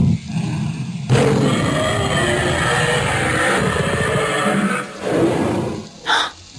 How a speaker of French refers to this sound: Vous entendez? Mais qu'est-ce que c'est que ce rugissement? C'est parce qu'aujourd'hui, dans Mercredi, on remonte le temps et on part à la découverte des dinosaures.